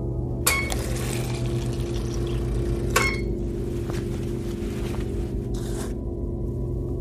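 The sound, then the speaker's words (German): Water pours steadily from a dispenser as an afternoon water ration is released, over a low mechanical hum, with a few sharp clicks as the flow starts and stops; moderately loud, no voices. “Wasserration, Captain Danielson. Nachmittagsration freigegeben.”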